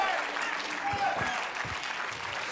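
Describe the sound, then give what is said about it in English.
An audience claps their hands to give God praise, a dense, steady patter of many overlapping claps at a moderate level for a few seconds. “Oh, clap your hands a little bit and give God some praise.”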